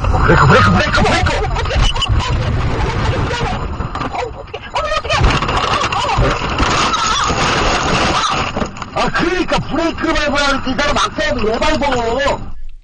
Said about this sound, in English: and then the car just slowly flips over, and it is upside down. 10 seconds after her driving test begins, she is in a car with her driving instructor upside down. It's in Korean, but you can hear the excitement of what was going on in the car.